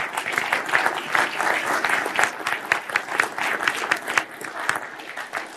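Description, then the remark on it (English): An audience claps steadily for several seconds, a dense, even patter of many hands with no voices breaking through. “Give him a clap.”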